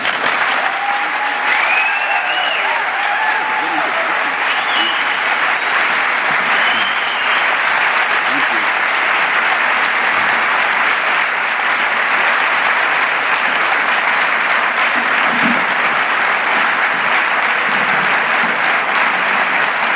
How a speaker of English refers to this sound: Thank you. That was so nice. Sometimes it gets embarrassing when the applause are longer before the talk than after.